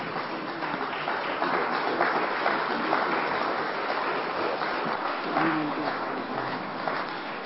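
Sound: audience clapping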